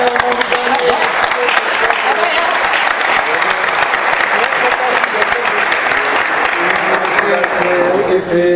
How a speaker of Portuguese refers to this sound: Chega aí, uma salva de palmas.